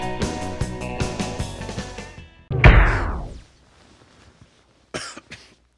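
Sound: cough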